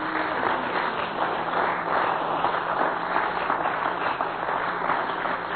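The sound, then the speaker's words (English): An audience claps their hands unto the Lord in steady, dense applause that fills the room for several seconds, many hands blending into a continuous wash of sound. “Let's clap our hands unto the Lord, will you?”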